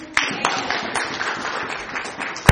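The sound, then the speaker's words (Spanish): A crowd applauds a woman addressed as 'sister', with steady, overlapping claps forming a dense wash of sound, a few sharper individual claps standing out, and a loud single clap near the end. “Den un aplauso a la hermana.”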